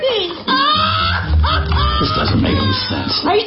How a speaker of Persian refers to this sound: Being called moaning, عزاداری، قیروقال کردن، گریه به این حالت.